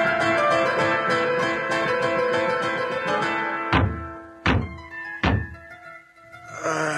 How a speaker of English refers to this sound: I come. Who knocks so late in the night? Can a poor priest never sleep?